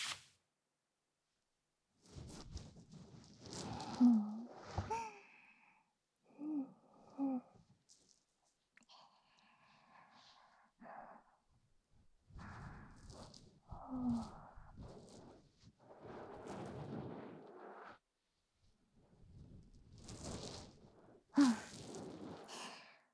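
A towel wipes foam from an ear in close, soft rubbing strokes, broad hushed swishes arriving in uneven bursts separated by short quiet pauses, with no talking.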